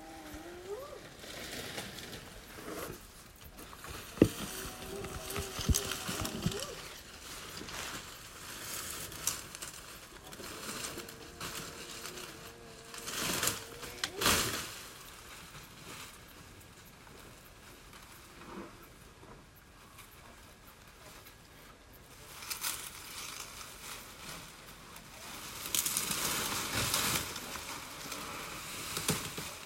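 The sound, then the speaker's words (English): An elephant right outside a room at a private lodge at night: low, drawn-out tonal calls recur over several seconds amid bursts of rustling and crunching, with faint whoops of hyenas in the distance at the start. “Speaking of which, here's some audio we recorded of another elephant right outside our room later that night.”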